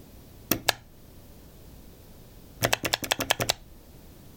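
Sharp mechanical clicks from an original Macintosh mouse button, crisp: a quick double click, a pause, then a rapid burst of about eight clicks in an uneven rhythm against a quiet background.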